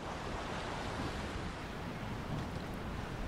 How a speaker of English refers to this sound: As they both sat on the patio listening to the ocean waves